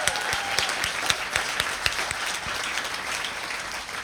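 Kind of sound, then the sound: crowd, applause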